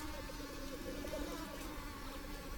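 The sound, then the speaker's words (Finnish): A steady, continuous drone of insects buzzing over a bog on a sunny, cloudless, windless day, a dense hum of many wings, with faint overlapping whines and no voices. “Suljen silmät ja kuuntelen hyönteisten surinaa suolla.”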